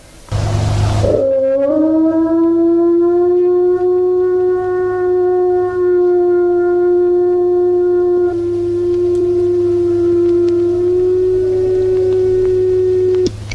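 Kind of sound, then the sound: animal, wolf howling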